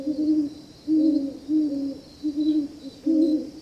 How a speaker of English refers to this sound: it's unusual to hear great horned owls, except in the dead of winter when they breed and rear young. The owl's subtle song is a welcome sound on the nearly silent evenings of early winter. And it's one we don't hear if we're warm indoors.